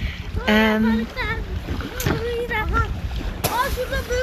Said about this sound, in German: Jetzt kommen gerade Kinder zum Spielen vorbei. Ich hoffe, du verstehst mich immer noch gut.